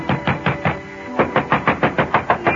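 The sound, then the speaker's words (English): Rapid, heavy pounding on a man's apartment door in Danbury in two insistent bursts of evenly spaced blows, separated by a brief ringing doorbell tone. The knocking is loud, with no talking. “But ringing his bell and pounding on his door got me nothing.”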